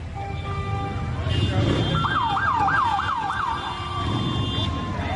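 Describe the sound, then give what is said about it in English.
A police motorcycle siren yelps in about five quick rising-and-falling sweeps, then settles into a steady tone, heard over a low rumble of outdoor crowd and traffic noise. “That sounds like a police motorcycle.”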